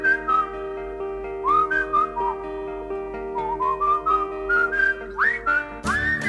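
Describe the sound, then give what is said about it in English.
A person whistles a bright, wandering melody, notes sliding up and down over a steady backing of sustained musical tones, ending with a quick upward swoop. “Yes, it's whistling whistleblowers with the courage to step forward and whistle.”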